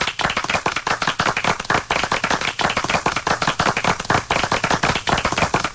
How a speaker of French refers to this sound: Et ce n'est pas moi qui ai ajouté les applaudissements. Non. C'est lui-même, là.